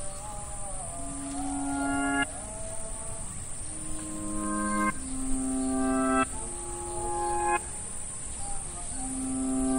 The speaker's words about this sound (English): As the crickets droned on into the evening.